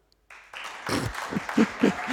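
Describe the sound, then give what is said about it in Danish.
A small group of about eight people in a hall at Sankt Knuds Gymnasium in Odense breaks into light, scattered applause to vote for 'spekulyse' as word of the year; it starts abruptly and holds steady for a couple of seconds, with a few voices murmuring underneath. “Hvor mange af jer synes med en klapsalve, at spekulyse kan blive årets ord?”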